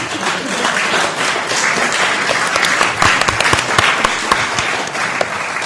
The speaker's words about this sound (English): May I be so self-indulgent as to ask you to welcome us to the room by putting one hand against each other and making applause-type noises.